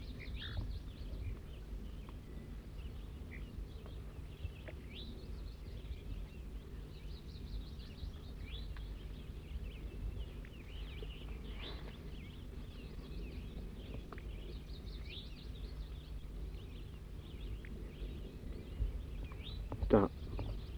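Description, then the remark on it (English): A wild bird gives repeated short, buzzy high-pitched 'zezer' notes, fairly faint, over a steady low rumble of wind, with a brief louder sound near the end. “Wild bird's now giving zezer notes.”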